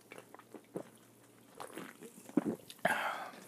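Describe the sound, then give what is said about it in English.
Slurping and swallowing from a drink of Canada Dry Mandarin Orange sparkling water, a few soft wet mouth clicks, then a sharper sip followed by a sustained fizzy hiss near the end, quiet and intimate with no talking. “So I'm getting like seltzer water or mineral water.”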